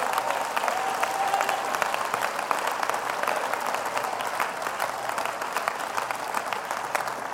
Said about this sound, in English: Clap your hands and thank God for that.